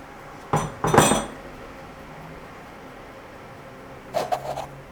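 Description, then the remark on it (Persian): Clattering metallic and plastic knocks from handling an electric tea maker and its lid after purified water from a water filter is poured in: a quick burst of clanks at the start, then quiet, then a second cluster of lighter rattles at the end. “دستگاه تصفیه آب ریختم توی چای ساز.”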